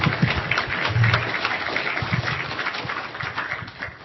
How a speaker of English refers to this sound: Oh, you can clap for a speaker.